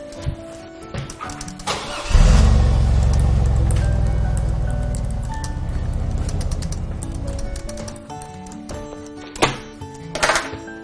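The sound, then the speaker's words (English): A car engine turns over and starts, then rumbles steadily as the car is driven to the mailbox to get the mail, its low hum rising slightly midway. Birds chirp faintly in the background before and after. “What did you use the car for?”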